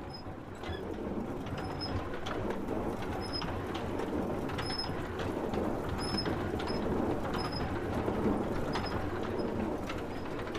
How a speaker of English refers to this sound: These are city mills using water power to grind grain.